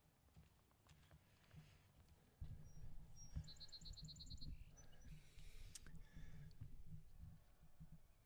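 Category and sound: bird, birds chirping outside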